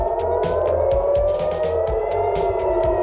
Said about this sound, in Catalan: Aquestes són sirenes de Tel Aviv. L'Iran ha bombardejat el cor d'Israel com a resposta a l'assassinat del segon home fort del règim.